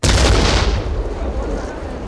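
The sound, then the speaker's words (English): A car bomb goes off right outside: a sudden, powerful explosion, a heavy boom that hits at once and rolls into a loud, rumbling roar that slowly fades over a couple of seconds. “That sounded like an explosion right outside.”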